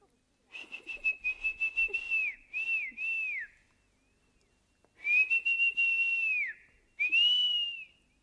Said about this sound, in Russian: Змей на свист всегда выползает. Ага. А ты умеешь свистеть? Умею. Ну, свистни. Ух ты! Да, ну, знаете ли, таким свистом змей только распугаешь.